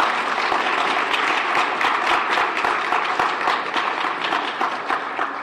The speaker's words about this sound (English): Let's have one more round of applause for all of the honorees today.